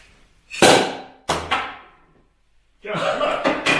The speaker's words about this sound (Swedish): Jag hade hållit ett svärd, jag hade sabrerat och sen flög skiten av mig.